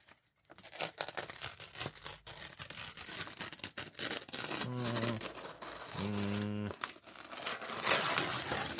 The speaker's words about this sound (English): Okay, so this one is tearing paper.